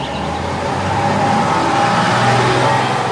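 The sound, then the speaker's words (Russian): A bus engine rumbles steadily with a low droning hum and a slight rise in revs as the bus drives away around a bend, heard alone, with no talking. “Как только за поворотом скрылся автобус, увозящий красраба к новой жизни”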